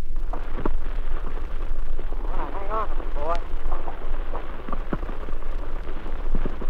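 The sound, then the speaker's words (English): Water churns and splashes steadily around a half-track landing vehicle going down its ramp onto a coral reef, over a deep, continuous engine rumble, loud throughout, with muffled voices briefly audible in the middle. “Can we go down the ramp into the water? You can probably hear it. We're now on the reef, in the water.”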